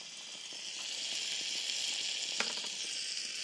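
Cheese sizzling on a hot plate as a sandwich cooks in a sandwich maker, steam rising: a steady, bright crackling hiss with scattered tiny pops and one sharper snap near the end, no voices.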